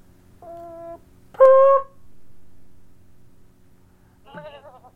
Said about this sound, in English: We can do a goat, that works too.